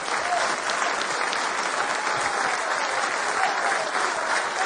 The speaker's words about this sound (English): Can you give him a hand clap of praise this morning?